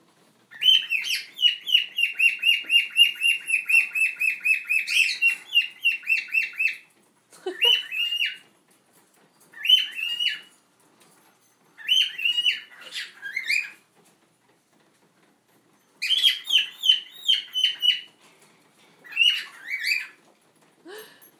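A pet bird named Storm sings a long, high, warbling trill for several seconds, then carries on in shorter chirpy bursts separated by brief pauses, with no voices.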